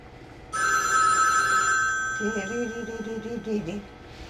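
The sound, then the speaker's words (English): A telephone rings loudly and steadily, a bright sustained electronic trill that begins abruptly, with someone's voice starting to speak over it partway through. “I got the ring in this phone.”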